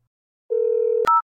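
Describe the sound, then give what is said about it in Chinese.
A phone ringback tone sounds: a steady electronic hum for about half a second, then a sharp click and a brief, higher beep, clear, with no one speaking. “你不做是不是？我电话可是要快通了呀。”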